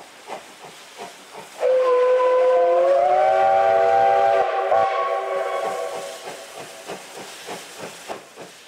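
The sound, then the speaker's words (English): A steam locomotive, its engineer feeding in coal, speeds down a straight single-track stretch at 40 to 60 miles an hour, chuffing rapidly with a steady, quick rhythm, then a loud, long multi-tone steam whistle blasts for about three seconds before fading as the chugging continues. “And so they were running a little behind, and so the engineer was putting the coal to her and picking up steam, flying down that straight stretch just as fast as he could, 40, 50, 60 miles an hour.”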